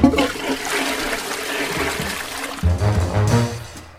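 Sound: toilet flushing water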